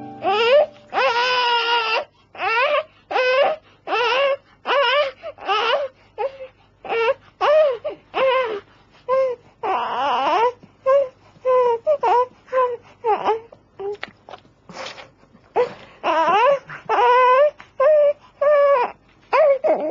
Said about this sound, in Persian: آیا می توانید کلمه اه را در این گریه بشنوید؟